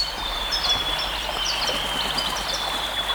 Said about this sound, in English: But you won't hear any instruments on this epic album, only the birds and the bees of Waiheke. And this is what it sounds like. So what are we listening to? This is in a forest clearing.